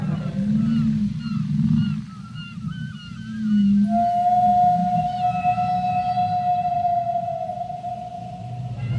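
Whale calls echo underwater: low moaning groans give way to a long, steady high-pitched tone with faint harmonics, sustained over a deep rumbling ocean background.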